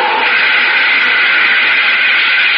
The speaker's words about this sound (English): All right, start up the jets, Astro. I'll handle the controls. I hope everything still works. Well, the jets are okay.